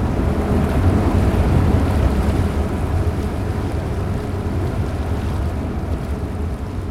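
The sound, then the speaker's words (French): A boat carrying visitors to the Château d'If, off Marseille, France, moves through waves: a steady, heavy low rumble of engine and churning water that stays loud and continuous, with no voices over it. “Cette semaine, je vous emmène au Château d'If, au large de Marseille, et l'on met tout de suite le pied sur le bateau.”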